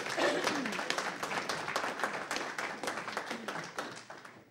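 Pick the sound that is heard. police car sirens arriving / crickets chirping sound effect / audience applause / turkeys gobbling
audience applause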